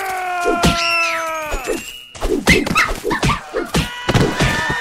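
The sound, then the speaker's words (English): A dog gives a long, wavering whine that drops in pitch, followed by a flurry of dull punching thuds mixed with short yelps, with no one talking. “Did I just punch a dog?”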